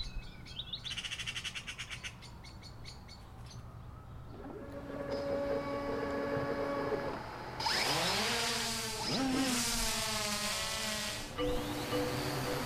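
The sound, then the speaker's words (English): A steady, high-pitched motor whine of a high-powered commercial drone hovering among the trees at peak foliage in a Massachusetts town, its pitch swooping up and down as it shifts, after a few brief bird chirps at the start. “Hovering among the trees at peak foliage in this Massachusetts town is an unfamiliar object, a high-powered commercial drone.”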